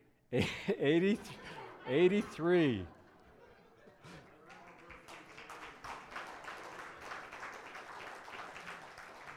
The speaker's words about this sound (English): And you couldn't hear over the applause.